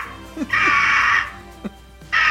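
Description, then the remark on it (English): An eagle screeches loudly, two long, harsh, rasping cries with a few short, sharp chirps in between. No one speaks. “feeds and waters and trains our eagle that we use for our final sound clip”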